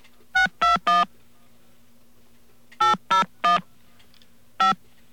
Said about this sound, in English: And we're going to dial a number now. Okay, let's call a number at random in Rhode Island. All right, and this phone will ring and a computer will pick up.